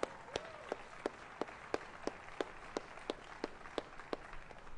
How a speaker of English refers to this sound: A round of applause, I think that's right.